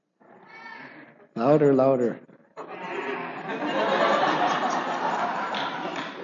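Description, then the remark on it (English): After a few spoken words asking what sound sheep make, a voice imitates a sheep's bleat with one loud, wavering baa. A crowd then joins in with a long, noisy wash of bleating and chatter. “What's the sound that sheep make?”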